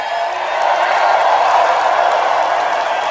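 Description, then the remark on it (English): A large live audience in Highland Heights, Kentucky cheers and applauds in a loud, steady roar that holds for about three seconds, a dense wash of clapping and shouting with no single voice standing out. “Well, let me tell you, do you love this crowd? I love this crowd.”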